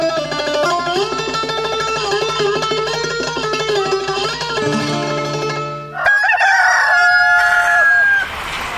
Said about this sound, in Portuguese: Um dia, de manhã cedo, esperei o galo cantar e cantei junto com o galo.